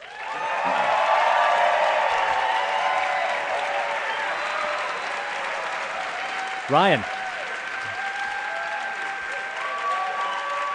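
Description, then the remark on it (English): Steady, loud applause from an audience welcoming film director Rian Johnson, heard coming through a microphone. It is a dense wash of clapping with some cheering, and a brief spoken word cuts through partway. “Lots of applause. Can you hear it coming through the mic there?”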